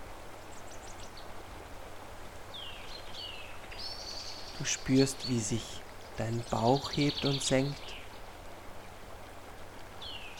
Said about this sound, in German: Du hörst aus der Ferne noch den kleinen Bach von vorhin, das Plätschern des Wassers.